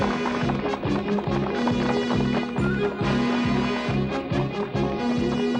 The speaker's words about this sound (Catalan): El robot s'ajup i posa l'orella a terra. Jo escolta. Escoltar què? Sentir passos. Molts, molts passos.